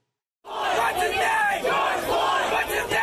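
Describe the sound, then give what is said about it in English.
A large crowd of protesters, at the nationwide protests over the death of George Floyd, shouts and chants together in a loud, sustained roar, many voices rising and falling in overlapping waves with no single speaker standing out. “A night full of nationwide protests amid a pandemic.”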